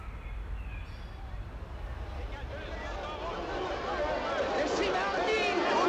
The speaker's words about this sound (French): La foule en colère se rue vers le magasin de Soleil Vert en renversant tous les autres étals dans la rue.